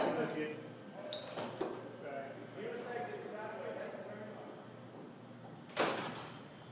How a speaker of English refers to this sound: you're going to shut the door when you